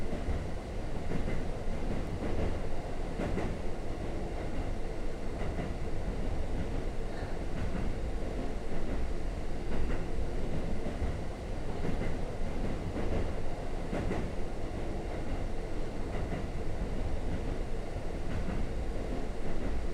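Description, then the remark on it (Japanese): A train rolls along steadily, its low, constant rumble broken by faint rhythmic clattering of wheels over rail joints throughout. “ガタンゴトン、ガタンゴトン、ガタンゴトン、ガタンゴトン。”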